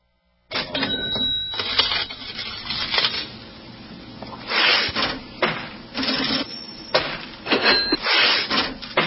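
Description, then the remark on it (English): An old mechanical cash register clatters through a run of loud clacks, ratchets and thumps, with brief metallic bell rings near the start and end. No one speaks. “Yeah, but you don't hear that sound much anymore, do you? Not the cash register.”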